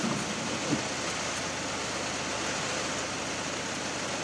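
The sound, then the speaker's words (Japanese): Steady, even hiss of heavy, wind-driven rain falling on a car stopped at a traffic light with its wipers switched off, a dense wash of noise with a low idling rumble underneath and no voices. “今ワイパーもガンガン動いてますし、多分雨の音も今静かにすれば入ってるんじゃないかなと思います。”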